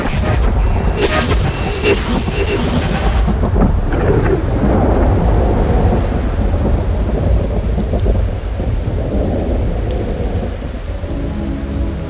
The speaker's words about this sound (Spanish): Llueve, llueve y está lloviendo.